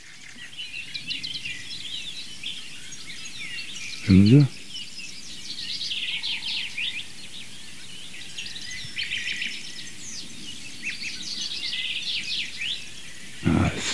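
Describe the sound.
A Eurasian blackbird sings melodious phrases amid a busy background chorus of other birds that runs throughout, with a man briefly speaking twice in the foreground.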